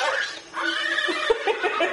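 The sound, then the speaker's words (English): A horse neigh sound effect plays loudly, a wavering, high-pitched whinny that fills about two seconds with a shaky, trembling rise and fall. “Hang on, let me get my horse sound effect.”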